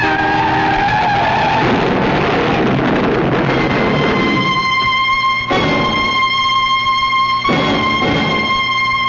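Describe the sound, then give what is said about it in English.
A truck skids on the road with a loud, sustained screech of tires that wails for several seconds, then breaks into sharp, stuttering bursts near the end. No one speaks. “That truck. He's crazy.”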